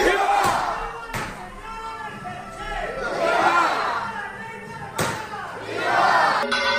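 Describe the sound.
A large crowd of brotherhood members shouts rousing cheers in waves at the close of a chapter meeting, voices swelling together loudly and then subsiding, with a few sharp thuds punctuating the roar.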